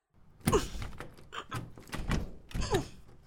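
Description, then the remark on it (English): A locked door is thumped and shoved several times in irregular succession, each heavy knock followed by a brief rattle of the frame, with no voices. “Unlock the damn door.”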